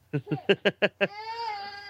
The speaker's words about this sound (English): Says the man that's got a screaming child. You've upset the child now.